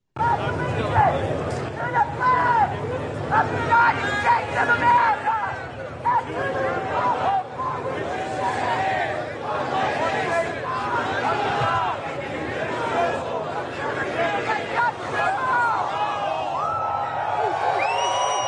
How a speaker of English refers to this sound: And by the way, it was a huge crowd. They recited the pledge, and they also picked up litter.